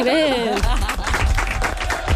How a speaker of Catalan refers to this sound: aplaudiments.